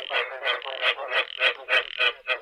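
A frog croaks over and over in a steady, rapid rhythm, about eight or nine close, fairly loud calls with no one speaking.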